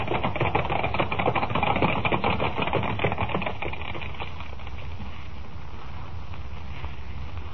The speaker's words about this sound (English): Thundering hoofbeats echo through the crowd-lined street as the 6 white horses, suddenly gone wild, carry the swaying silver carriage to almost certain doom, while the thousands of people who only a moment ago were cheering wildly look on aghast.